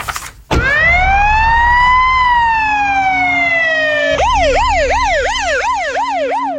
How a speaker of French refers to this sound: La voiture de police repart, toute sirène hurlante, sous le regard ahuri des passants.